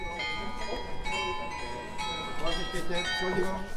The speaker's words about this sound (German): Hier das charakteristische Läuten der Freiburger Rathausglocken.